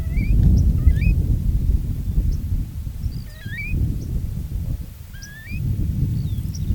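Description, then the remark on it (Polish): High, thin squeaks and chirps exchanged by birds in a metal cage come in short scattered bursts above a loud, rushing wind that roars in gusts across the low end and nearly drowns them. “Najwyraźniej się naradzały, bo tak pozwalam sobie zinterpretować piski, jakimi się wymieniły i które to piski z lubością zagłuszał wiatr.”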